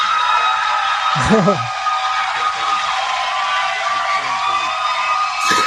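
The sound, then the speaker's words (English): An audience breaks into sustained applause in answer to a question asking whether they believe they are being hurt by secondhand smoke: a dense steady clatter of many hands fills the whole stretch, with a few shouts and voices rising underneath. “Would you just applaud if you believe that you're being hurt by secondhand smoke now?”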